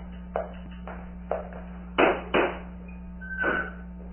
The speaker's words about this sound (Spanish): Lucas mira hacia el ventanal de la terraza, descubriendo a un hombre que golpea en los cristales. Uno de los campesinos está allí.